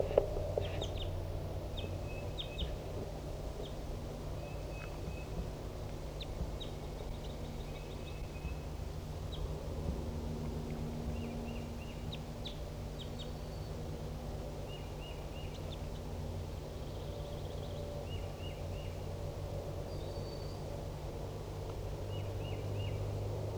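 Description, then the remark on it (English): Scattered short, high calls and chirps at 10:30 a.m. from a wild bird, with a decoy bird and newly caught birds responding, repeat irregularly throughout in brief clusters over a steady low rumbling background hum. No one speaks. “And so Decoy and 4-7 and the other newly caught birds are responding.”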